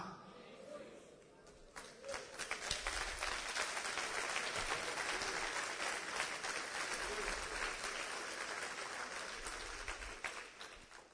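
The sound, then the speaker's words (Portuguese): An audience claps their hands together in a dense, sustained burst of applause that swells quickly and holds steady for several seconds before tapering off slightly. “Quando vocês batem palmas sem entender, vocês se condenam.”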